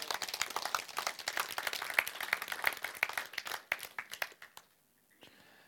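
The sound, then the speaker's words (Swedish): A crowd applauds for the Lord with dense, steady clapping for about four seconds, then the clapping thins out and stops, leaving faint background hiss. “Ge Herren, som är så god, en stor applåd nu.”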